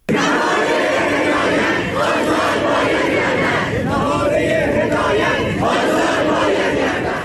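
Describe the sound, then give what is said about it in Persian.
Students of Amirkabir Polytechnic University in Iran chant protest slogans in unison at a rally, loud and sustained, with rhythmic shouted phrases rising and falling over a continuous roar of many voices. “دانشگاه پلی‌تکنیک امیرکبیر در اعتراض به نامشخص بودن عاملان آن واقعه و همچنین شرایط فعلی کشور تجمع، تظاهرات و شعارهایی سر دادند.”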